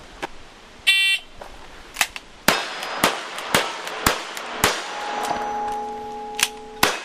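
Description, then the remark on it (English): A shot timer's beep, then a rapid string of about ten sharp six-shooter pistol shots in a simulated old Western gunfight, each followed by a clanging ring as bullets strike metal targets 15 to 20 yards away. The lingering metallic tones build toward the end. “Ozark's Jim prepares to shoot his targets, loading his guns carefully, putting on eye and ear protection, and setting the timer.”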